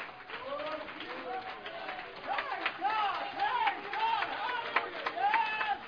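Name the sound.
audience hand clapping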